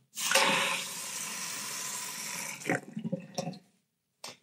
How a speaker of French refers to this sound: Le robinet.